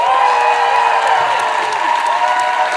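audience applause welcoming guests

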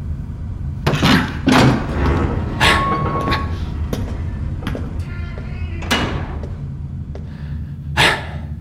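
door opening and closing

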